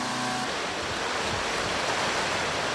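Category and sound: nature, rushing river floodwater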